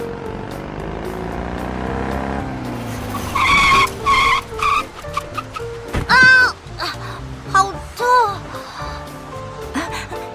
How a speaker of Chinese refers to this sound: 对不起，你突然冲出来，我差点来不及刹车。